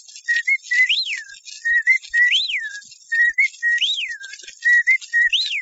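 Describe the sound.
A person whistles an imitation of a wren's song: four quick, repeating phrases of short chirps ending in a bright rising-and-falling swoop, clear with no talking.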